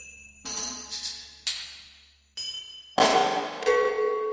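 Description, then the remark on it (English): Metal percussion struck several times in succession, each hit ringing out with bright, shimmering overtones that slowly fade, ending in a louder burst of jingling, clashing metal. “Some are metal, ringing metal.”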